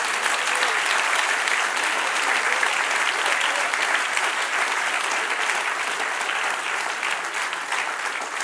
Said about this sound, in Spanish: Dale un aplauso, Señor.